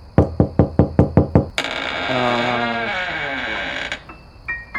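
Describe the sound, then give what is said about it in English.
Seven quick, evenly spaced, loud knocks on the door of a house, followed right after by a long, drawn-out creaking groan as the door comes open. “It probably wasn't closed that tight, and all the knocking just loosened it.”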